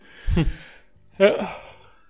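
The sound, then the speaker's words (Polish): A person yawns during an early Saturday-morning recording at 9:30, a drawn-out breathy vocal stretch followed after a short pause by a second, louder yawning exhale that trails off slowly. “Ty ziewa, przepraszam drodzy słuchacze za to.”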